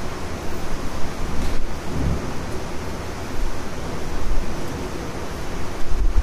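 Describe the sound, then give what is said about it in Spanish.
Steady applause from a concert audience as maestro Gabriel Robles enters the stage before the concert, a dense wash of many hands clapping at an even level for the full length, with no voices heard over it. “El silencio es precedido por el aplauso al maestro Gabriel Robles, que entra al escenario, saluda al concertino y al asistente, la mujer romana.”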